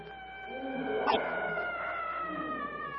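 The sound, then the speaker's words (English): A weird, drawn-out howling cry of a group of men wavers steadily from a distance through the night, its tone held for several seconds, with a brief sharp burst partway through and no talking. “From a distance, the weird cry of the yellow men resounds eerily through the night.”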